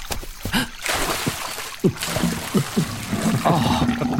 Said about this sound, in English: A gentle bubbling spring.